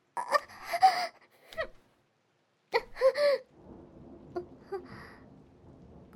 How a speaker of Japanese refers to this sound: 雷。いえ、今は全然怖くないです。